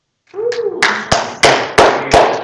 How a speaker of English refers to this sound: You can amen and dance and clap for that. That is definitely worth celebrating.